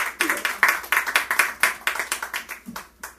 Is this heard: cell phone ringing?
no